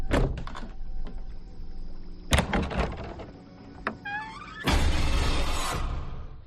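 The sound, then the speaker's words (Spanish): A closet door is handled and shut: a few knocks and rattles, a sharp loud bang midway, a brief creaking squeal, then a sustained rushing, clattering noise to the end. No one speaks. “Cierras la puerta del armario.”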